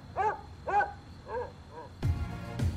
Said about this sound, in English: Every dog in the neighbourhood began to bark with excitement.